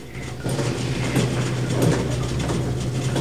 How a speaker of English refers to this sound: A yellow piece of machinery rattles and rumbles inside, but Miller ignores it and checks his view across to the hacienda.